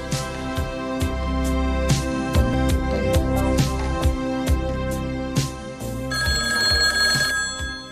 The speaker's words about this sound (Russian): И действительно, без четверти 10 телефон зазвонил.